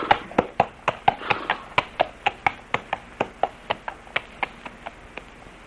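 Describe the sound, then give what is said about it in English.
A horse's hooves clip-clop at a steady walking pace on a hard surface as the horse is led to the stable, about three crisp strikes per second, growing slightly fainter toward the end. No voices are heard. “Shall I take the horse to our stable, sir? Yes, Gurdner, and quickly.”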